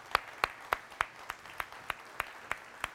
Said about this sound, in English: Good morning. Can we give the worship team a round of applause again, please?